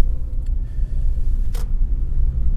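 cars passing on road

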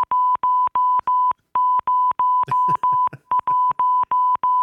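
morse code beeps

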